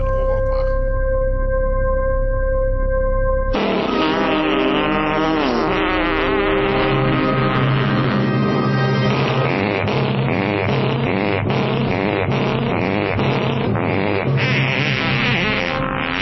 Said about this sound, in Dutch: Maar natuurlijk liet Stern niet de normale versie horen, want geheel in stijl werd het nummer ten gehore gebracht als een serie keurig gestemde scheten. Neus dicht.